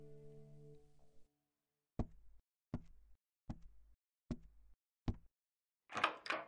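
Five firm, evenly spaced knocks on a door, clear, each ringing briefly, following a short sustained tone and ending in a brief rustling clatter.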